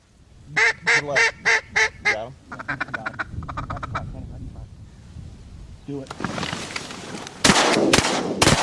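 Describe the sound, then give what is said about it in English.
During a duck hunt in southern Illinois, a duck call sounds a string of loud, rhythmic quacks, then a quicker chattering run, and is then cut short by several sharp, booming shotgun blasts. “Here's some sound from a duck hunt in southern Illinois. First you hear the duck call, then the duck kill.”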